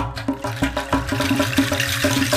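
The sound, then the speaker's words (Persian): A water tap sputters and rattles, rushing water broken by rapid, rhythmic gurgling bursts and a low humming judder, loud with no one speaking. “یک دفعه صبر شیر آب سر اومد، لرزید و قر زد و صداش در اومد.”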